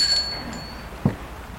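A doorbell, rung at night at a house by a police commissioner, gives a bright, high ring that fades within the first moments, then near-quiet settles in, broken by one short, soft thump.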